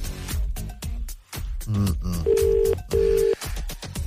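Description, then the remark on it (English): A phone line ringing tone: two short, steady, buzzy rings in a quick double pattern, clear, after a moment of muffled voices and line noise, as Ray Foley of Today FM calls a man in Tipperary. “It's ringing.”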